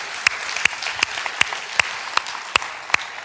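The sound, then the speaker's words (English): A church audience applauds the preacher's daughter steadily for a few seconds, a dense wash of clapping with sharper individual claps popping out at a regular beat. No one speaks. “I told her I would tell you that, so let's give my daughter a round of applause.”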